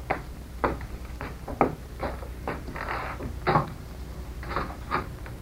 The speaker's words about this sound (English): We had better go into the next room. I will open the door.